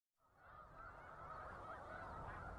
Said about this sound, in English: We leave you this morning near Savannah, New York, in the Finger Lakes, a favorite spot for migrating snow geese.